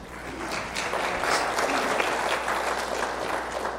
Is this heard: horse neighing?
no